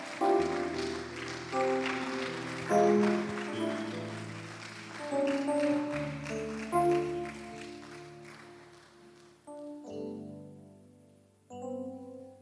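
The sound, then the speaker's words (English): A church audience, standing, claps for Jesus over loud sustained keyboard chords, the applause dense and steady for several seconds before thinning out as the music carries on alone. “Stand to your feet. Give Jesus a big hand clap.”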